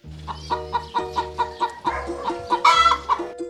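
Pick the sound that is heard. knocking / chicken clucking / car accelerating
chicken clucking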